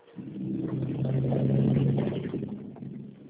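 A heavy truck rumbles past on the street, its low engine roar swelling to a peak midway and then fading as it moves off, heard alone over a muffled, narrow phone-like line.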